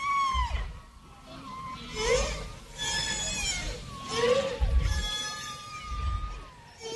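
Whale song: eerie, gliding moans and rising whistles with rich overtones, sweeping up and down in pitch over deep low rumbles. The calls overlap in a slow, continuous flow with no talking.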